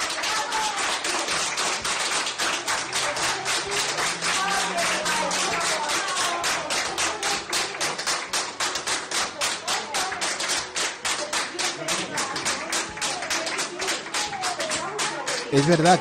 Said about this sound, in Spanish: Es verdad que emociona ver cómo el hombre sale escoltado por los sanitarios y cómo él va saludando y agradeciendo a los mismos por sus cuidados mientras le aplauden.